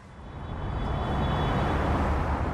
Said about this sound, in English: Cars speed on a freeway ringing Johannesburg. Many are going much faster than the 100 kilometer an hour speed limit.